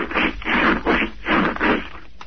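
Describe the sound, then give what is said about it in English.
A phone rubbed back and forth against pants fabric, making five loud, rhythmic, hissing scrapes in quick succession, with no talking. “There were two distinctly different sounds in that rub”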